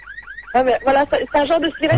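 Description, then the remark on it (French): A voice imitates a police siren: two quick rising-and-falling high wails, then a series of loud, strained, alternating vocal tones repeating in a steady siren-like rhythm. “Ah ben, voilà, c'est un genre de sirène voilà, comme ça.”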